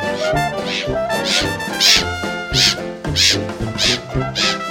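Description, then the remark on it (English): Black-headed gulls, with a Mediterranean gull also named, call over and over at a nature reserve, harsh, nasal squawks rising and falling in quick succession, several birds overlapping into a loud, continuous chorus. “Black-headed gulls.”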